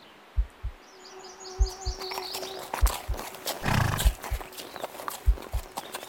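horses clip-clopping and neighing

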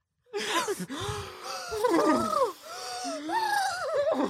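deep breathing exercise

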